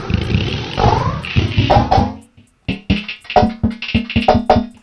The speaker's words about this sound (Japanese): 今これ非常に短いリバーブがかかってるんですが、伸ばすと。という、もはやちょっとよくわかんない感じになるんですが、元音がもうわかんないですよね。